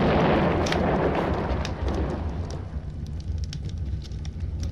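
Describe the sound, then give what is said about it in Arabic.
A heavy, booming blast of artillery fire opens loudly, then rolls away into a sustained low rumble with scattered sharp crackles and pops, no voices. Bombardment by planes and cannons of the city of Rasht in 1918. “كانت رشت بأيدي ثوار الغابة لعشرين يوما، ولكنها كانت على الدوام عرضة للقصف بالطائرات والمدافع، وقد ظل المعسكر البريطاني يبدي المقاومة إلى حين وصول القوات المرسلة من قزوين.”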